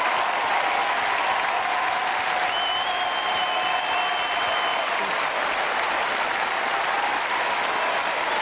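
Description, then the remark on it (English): Sustained, dense applause from a large crowd giving a standing ovation, risen from their seats, fills the whole stretch, steady and loud with no pauses, a roaring wash of many hands clapping at once. “the crowd rises from their seats for a standing ovation.”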